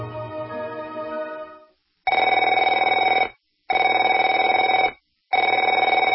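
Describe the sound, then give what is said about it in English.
A telephone rings loudly in repeated bursts, three buzzing trills of just over a second each, separated by brief silent gaps, after an opening steadier tone. No one speaks. “Afraid to answer it?”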